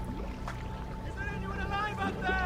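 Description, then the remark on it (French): A rowboat moves steadily through water among floating corpses as the men's oars splash and churn, with a continuous low rumble underneath and faint voices calling in the background as the boat moves away. “Et le bateau s'éloigne, et nous on voit Rose, qui n'arrive même pas à crier, évidemment.”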